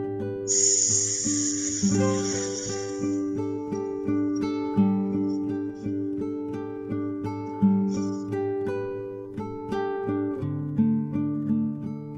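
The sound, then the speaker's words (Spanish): A seated person, after inhaling deeply through the nose, gives a long, steady, slow hissing exhale imitating the sound of a snake as a breathing exercise, lasting a couple of seconds, over continuous soft instrumental music that carries on after the hiss fades. “Y al momento de exhalar, realizaremos el sonido de las serpientes.”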